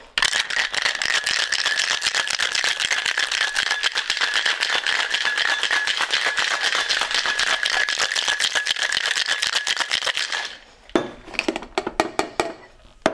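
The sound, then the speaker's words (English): Ordinary freezer ice cubes rattle hard and fast inside a cocktail shaker as a drink is shaken, for about ten seconds a loud continuous clatter, then slowing into a few scattered clinks and knocks before stopping. “Okay, you choose your shaking glass of whatever.”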